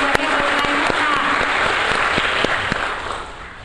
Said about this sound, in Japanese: 今一度大きな拍手をお願いいたします。